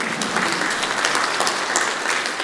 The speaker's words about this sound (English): But anyway, thank you very much. Can I get a round of applause for my assistant?